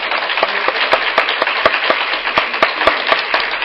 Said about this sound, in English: And so would you please give our speakers a round of applause?